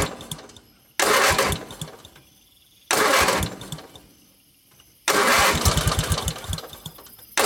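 A car engine cranks three times as the key is turned in the ignition after the radiator was filled with water, in loud, sputtering bursts with a rapid chugging rhythm, each attempt fading out without the engine catching, with brief quiet gaps between tries.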